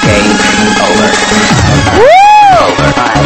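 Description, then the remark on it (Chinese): A loud crowd cheers and applauds in a dense, continuous roar, and a single rising-and-falling whistle or whoop cuts through partway in. The men in the audience are applauding the women on stage. “哇，下面的帅哥给你掌声，台上的美女好吗？”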